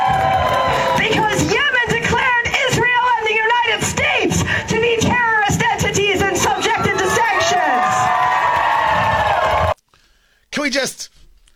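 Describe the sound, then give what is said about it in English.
A loud crowd cheers Yemen, shouting continuously for about ten seconds with many voices overlapping in rising whoops. The sound then cuts to near silence before a brief final burst of cheering. “we just take a moment that when you're cheering Yemen as the leaders in freedom and democracy, chances are you never read a book.”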